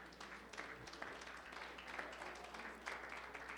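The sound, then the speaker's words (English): A church audience claps their hands together as praise to the Lord in a steady, dense patter of many overlapping claps, sustained evenly for a few seconds at a moderate, fairly soft level with no voices. “Somebody give the Lord a hand clap of praise for that.”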